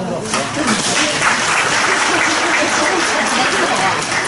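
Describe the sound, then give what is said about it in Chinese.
Steady, enthusiastic audience applause: a dense wash of many hands clapping at an even, loud level for about four seconds, with no clear break or fade. “谢谢各位热情洋溢的掌声。”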